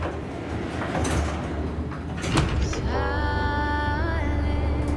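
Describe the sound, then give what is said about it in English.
An elevator door slides shut with a rumbling rush and a soft thud after a button is pressed, then a steady, high, whining motor hum starts and holds, rising slightly near the end. “He presses a button and the door closes.”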